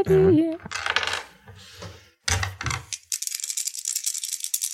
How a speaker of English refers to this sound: These are dice, right? Yeah. Sometimes. Oh, for God's sake. Yeah. I rolled insanely good for the first, like, for the first part of this session, and then it's just been trash city.